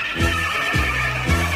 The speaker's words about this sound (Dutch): Ja, dat is mijn paard.